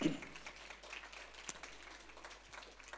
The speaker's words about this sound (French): Quite simply wonderful. On peut applaudir, hein, c'est...